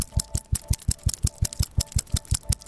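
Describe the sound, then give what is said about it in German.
Meltwater from a melting glacier in Graubünden drips in a steady, quick rhythm, about five sharp ticking knocks per second, each with a soft low thump. The pulse is regular, almost mechanical, and no voices are heard. “Und so klingt's, wenn die Gletscher schmelzen.”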